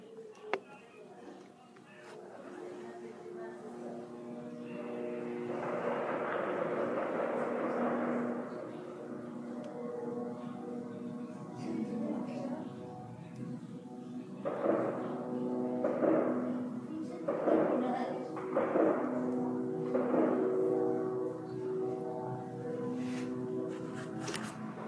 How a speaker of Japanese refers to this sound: 嫌な音が上空から響いてきています。ドローンではないかと思います。